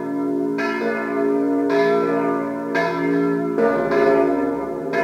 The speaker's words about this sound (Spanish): Budapest, las últimas dos campanas de San Matías.